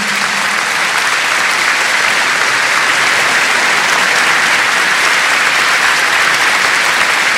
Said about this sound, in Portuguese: Obrigado pelo seu aplauso, porque diz tudo.